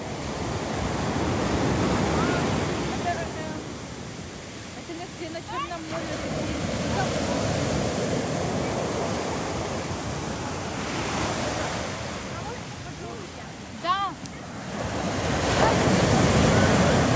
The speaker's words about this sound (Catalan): Encara que fos de nit, s'emocionaven en sentir el so de les onades i l'aigua acostant-se cap als seus peus.